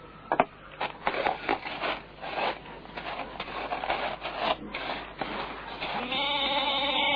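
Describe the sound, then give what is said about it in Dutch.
A large goat bleats, a drawn-out, wavering call near the end, preceded by several seconds of scraping and rustling noises. “Kijk, hij zegt dus al gedag.”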